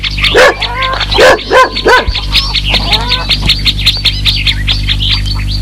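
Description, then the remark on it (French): A fierce dog on a farm barks in several quick bursts during the first three seconds, while a steady clamor of chirping birds continues underneath and carries on after the barking stops. “Mais il a peur, moins peur des poules que du chien.”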